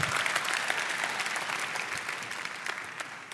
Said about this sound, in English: Yeah. You clapping now?